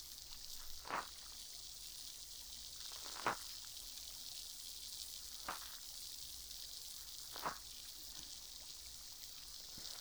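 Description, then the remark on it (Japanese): Steady fizzing hiss of liquid on the tip of a cotton swab, broken by four crisp little pops spaced a couple of seconds apart. No one speaks. “シュワシュワ。”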